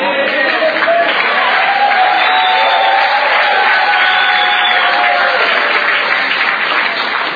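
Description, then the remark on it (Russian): Steady, dense audience applause lasting several seconds, a continuous wash of many hands clapping at an even loudness, with faint crowd murmur mixed in and no distinct speech. “Спасибо вам за такие аплодисменты.”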